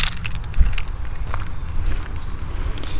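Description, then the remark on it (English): A quick metallic jingle of keys being taken out of a pocket while walking outdoors around a pond on a hot day, bright clinking bursts near the start over a steady rumble of wind and traffic. “I'm coming back around the dragonfly pond, taking my keys out of my pocket.”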